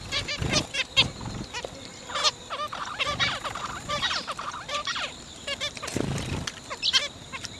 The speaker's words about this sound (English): Zebra finches. And I wonder whether that loud chirp was, "Watch out behind you, the big bastard's back."